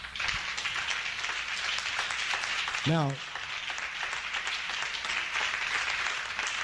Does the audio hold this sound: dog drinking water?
no